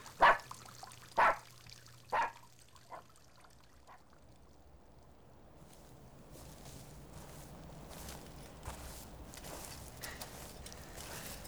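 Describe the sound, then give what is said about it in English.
A dog gives three sharp, loud barks about a second apart, followed by a couple of fainter yips, then a steady wash of pouring, trickling water takes over. “Or maybe you could just bark. Oh, God. Let someone hear him barking.”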